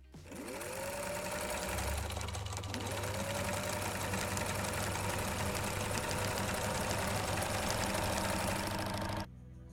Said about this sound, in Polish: Jeżeli jesteś super tajnym agentem, no niestety, musisz też mieć nie tajną, ale fajną maszynę do szycia i to wszystko ogarnąć w jednym miejscu. Po prostu zaszywasz mankiet i lecisz. No posłuchaj, jak to brzmi.